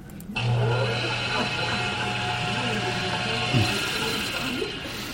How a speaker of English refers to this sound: So let's test this with a frog in a blender. And when I turn the switch on, I'm adding energy to the frog, right?